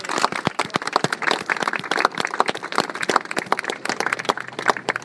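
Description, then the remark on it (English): A crowd gathered in Birmingham to clean up the city applauds itself steadily for about five seconds, a dense rush of many hands clapping at once, with individual sharp claps popping out of the wash. No one speaks over it. “I think you should all give yourselves a round of applause.”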